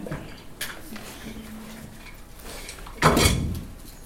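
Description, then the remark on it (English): A chair is moved out across the floor: a brief knock, a faint low creak, then a louder scraping drag lasting about half a second, with no one speaking. “I'm just gonna move this chair out because it's.”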